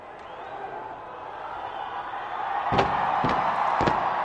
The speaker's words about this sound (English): That was the sound as people in New Zealand celebrated the coming of the new year with a huge fireworks display. A giant clock on Auckland's landmark Sky Tower counted down the minutes until the new year before fireworks launched from the tower